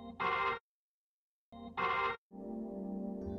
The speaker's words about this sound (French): L'orgue, je crois que c'est …, je crois